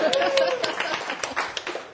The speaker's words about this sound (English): A round of applause for this guy.